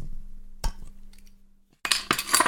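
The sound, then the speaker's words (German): Glasses clink together as a father and daughter toast: a couple of sharp, bright taps early on, then a louder, ringing flurry of clinks after a brief quiet pause. “Prost, Papa. Prost, Tochter.”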